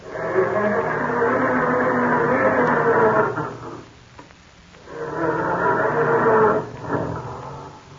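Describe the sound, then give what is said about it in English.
A family car's engine grinds and strains as it is started in the morning, in two long, rough bursts separated by a brief lull, its dense mechanical roar loud and uneven, as if it is failing to catch. “Or does your car sound more like this when Dad goes to start it up in the morning?”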